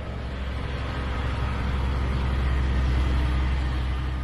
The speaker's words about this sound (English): Trucks pass by every minute, loaded with iron ore.